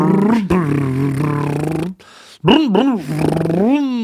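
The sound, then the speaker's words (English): A man's voice imitates a car motor, like a person making a Prius's simulated motor noise: first a steady buzzing hum, then after a short pause warbling, rising and falling revving sounds that end in an upward sweep. “maybe the Prius actually has like a little simulated motor noise so that you don't just mow somebody down in a parking lot.”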